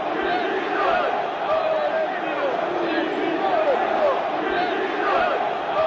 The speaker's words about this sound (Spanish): Silbada, pitada y estos gritos de Florentino dimisión. ¡Mira qué bronca! ¡Oímos al Bernabéu!